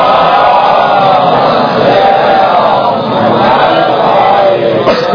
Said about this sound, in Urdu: سلوات پڑھے محمد والے.